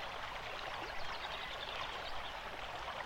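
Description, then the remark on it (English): Water flows steadily along a forest stream over stones with a continuous bubbling rush, even in volume, with faint gurgles and splashes woven through and no voices. “letting the water move over the stones you lie on, feeling the sunshine warming you as cool water flows around your body and warm, smooth stones support you.”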